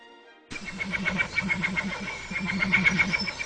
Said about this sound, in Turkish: Bu bir Vogelkop çardak kuşu. Sıra dışı bir şarkı repertuarına sahip. Aynı zamanda harika bir taklit ustası.